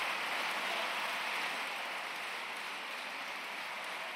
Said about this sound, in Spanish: Aplausos del Partido Popular hasta ante esta afirmación.